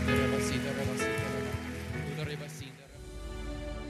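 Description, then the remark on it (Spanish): A church audience claps loudly, giving applause to the Lord, in a dense, steady roar of applause that fills the whole stretch, with a voice and sustained tones faintly underneath. “Vamos a dar un aplauso fuerte y fuerte al Señor.”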